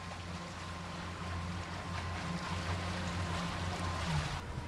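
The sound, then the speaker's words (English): A Hornblower water bus touring the marina at Marina Del Rey hums steadily with a low engine rumble while water washes and splashes around the hull, with a faint wind-like hiss over the top and no voices. “Come along and join Captain Chuck Myers for a tour of the marina aboard the water bus.”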